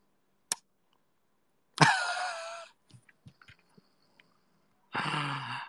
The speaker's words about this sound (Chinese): 能听到打呼噜的声音吗？能听到吗？